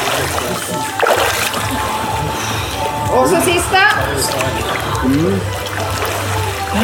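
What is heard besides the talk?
water splashing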